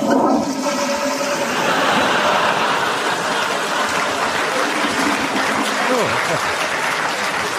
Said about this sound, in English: I can see you're busy, listening to your album of vintage toilet flushes.